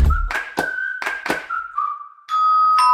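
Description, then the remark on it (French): A doorbell rings as Guillaume Meurice arrives at the door: a steady, high electronic tone runs under four sharp knock-like taps, then a brighter, harmonically rich ringing tone swells in and holds loudly until the end. No one speaks. “Mais qui sonne à la porte?”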